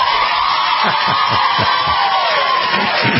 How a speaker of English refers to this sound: Let's take a survey by claps.